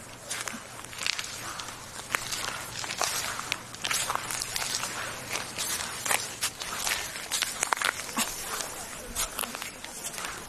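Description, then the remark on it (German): Footsteps crunch across damp sand scattered with small shells and stones on the beach at Travemünde, walking right by the water on a windless day, each step a crackling, gritty burst in a steady walking rhythm, with a soft low hum underneath. “Der Strand ist noch so ein bisschen feucht. Hier liegen kleine Muscheln und Steine. Und deswegen hört es sich so ein bisschen nach Knacken an.”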